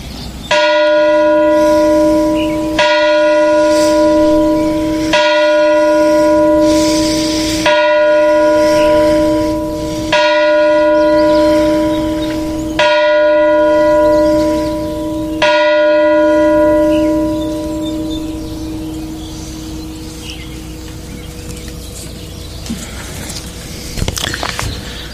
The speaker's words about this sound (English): Now let us meditate on those words with a moment of silence and the tolling of the bell.